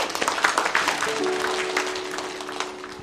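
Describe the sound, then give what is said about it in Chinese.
A church audience claps steadily for about three seconds to welcome a man coming up to give a testimony, a dense crackle of many hands that slowly thins, with a faint sustained tone humming underneath in the second half. “我们掌声欢迎他。”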